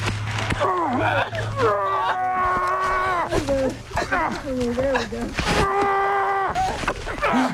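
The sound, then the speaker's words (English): In body cam footage from a car crash scene, a man groans loudly and strenuously while single-handedly lifting a car to free a trapped woman, giving several long, wavering, high-pitched vocal cries with short gasping breaks in between, and no words. “I mean, the sound is quite jarring, but he's lifting a car, isn't he?”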